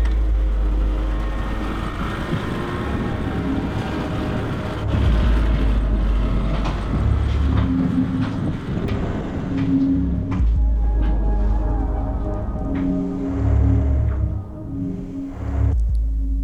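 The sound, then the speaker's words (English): A snowmobile rumbles steadily at full speed along a summer road, descending into a seaside valley at sunset, its deep engine drone shifting in pitch while constant crackling and crunching from its track grinding through rime and ice runs beneath it. “The sun's setting as we take the summer road at full tilt, the traction belt busting through rime and ice as we descend into a seaside valley.”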